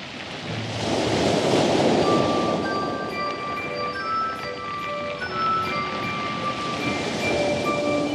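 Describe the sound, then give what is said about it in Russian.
Loud, steady roar of sea waves washing and surging throughout after a tarred barrel is thrown into the sea, with soft sustained musical tones drifting above the rushing water. No voices. “В нее посадил Емелю и Марью царевну, засмолили и бочку в море бросили.”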